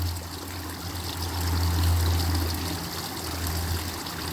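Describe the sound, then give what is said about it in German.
A steady stream of flowing water babbles and trickles continuously, moderately loud, with a low rushing undertone that swells slightly midway before settling. “Gib alles dem Wasser, dem fließenden Bach, dem Fluss des Lebens, was du nicht mehr brauchst.”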